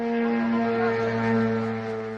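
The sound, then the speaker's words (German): A drone entering Romanian airspace in eastern Romania, at the border with Ukraine, flies overhead with a steady, engine-like drone: a low, continuous buzz with layered harmonic tones that wavers slightly in pitch and holds an even loudness throughout, with no voices. “Dem Geräusch einer Drohne, die in den rumänischen Luftraum eindringt.”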